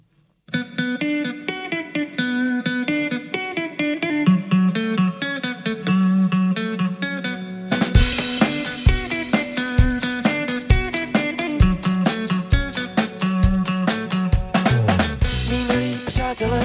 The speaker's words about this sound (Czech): Já mám jednu písničku, kde hraju na basu a zbytek už je s klávesem. No, tak mi radši to zahrajeme asi. Jdem hrát.